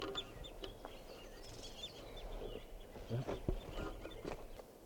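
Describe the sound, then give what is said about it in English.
A flock of birds calling from a tree in a corral in Barfoot Park: many short high chirps and peeps overlap in a busy, irregular chatter over a steady low rumble, with a few soft thumps mixed in. “Birds are starting to call here now.”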